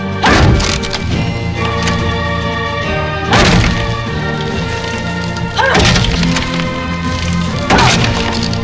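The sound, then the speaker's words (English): The wooden planks of a coffin lid crack and splinter as a woman punches them from inside with her fist, in four sharp, heavy bursts spaced a few seconds apart, each with a brief rattling break-up, over a steady, sustained tonal drone. No one speaks. “And the planks that make up the lid start to split.”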